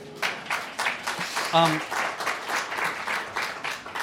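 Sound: audience clapping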